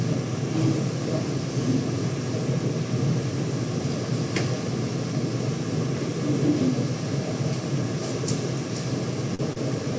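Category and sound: sound effect, airplane engine sound effect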